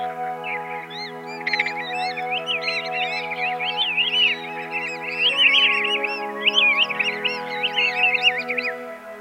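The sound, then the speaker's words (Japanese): A flock of migrating Pacific golden plovers resting in a rice field in Matsudo, Japan, calls continuously, many short whistled notes overlapping into a busy chorus over a steady low droning hum. “今朝は松戸の胸黒をお送りしました”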